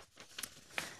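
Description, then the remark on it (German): Soft papery rustles of book pages being flipped to find number 137, two or three quick brushing sweeps, fairly quiet, with no one speaking. “137, da muss ich gar nicht so weit blättern.”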